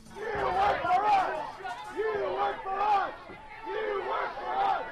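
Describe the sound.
A crowd at a town hall healthcare meeting in Tampa, Florida yells loudly in three surging, chant-like bursts, many voices shouting together in a steady, rising-and-falling rhythm.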